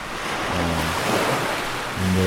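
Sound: ocean waves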